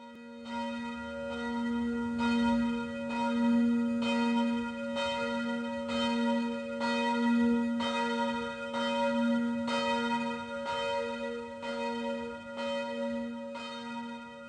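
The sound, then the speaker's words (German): Church bells ring steadily, strike after strike at an even pace, their deep humming overtones blending and sustaining between hits, with no voices, only the pealing bells. “Wir läuten das heutige Thema ein.”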